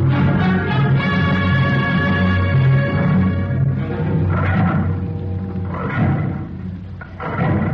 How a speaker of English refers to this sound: I don't like the sound of that drill. I don't like it myself. It's roaring like a year-old bronc.